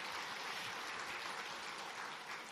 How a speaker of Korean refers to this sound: 한번 일어서 주시면은 예, 우리 박수로 환영하겠습니다. 네, 잘 오셨습니다.